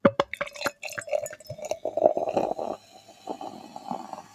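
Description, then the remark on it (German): American rye ale glugs and gurgles as it is poured into a glass, the splashing pour easing into a softer, steady fizz of rising foam, dense, fine-pored and dark beige. No one speaks. “Ich hoffe, ihr hört den Schaum auch so schön wie ich hier, wie er sich so entfaltet.”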